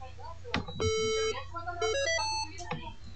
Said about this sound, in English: The first tone was a reset tone, the second tone was the actual upgrade tone. It is now saying beep beep beep beep. It says that it is now in boot menu.